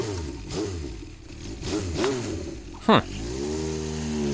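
A motorcycle engine revs several times, its pitch swelling and dropping in quick surges, then settles into a steady, even drone after a short sharp burst near the end.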